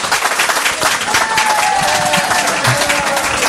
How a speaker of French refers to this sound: Bon, je voudrais qu'on applaudisse très fort … et Gérard Klein, s'il vous plaît.